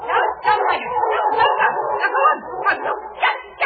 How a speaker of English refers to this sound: Then suddenly the dogs was piling out of the house.